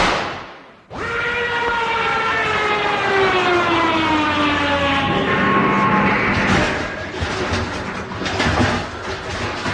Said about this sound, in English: Listen. What? There's a record of an aeroplane approaching.